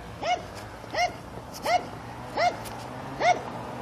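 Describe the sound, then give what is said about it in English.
A dog barks five times in a steady, evenly spaced rhythm, each bark short and sharp, over a low continuous engine-like hum. “Boy, mowers and dogs and cars.”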